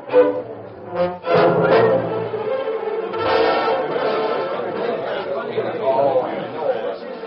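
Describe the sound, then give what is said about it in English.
A crowd packed into Judge Bittner's courtroom for a trial, a dense murmur of many voices chattering at once, a steady, moderately loud babble with no single speaker standing out and brief swells in the overlapping talk. “Every man, woman, and child who could crowd into Judge Bittner's courtroom was there to hear the trial of Luther Jones.”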